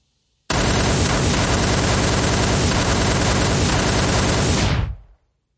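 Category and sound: sound effect, sustained gunfire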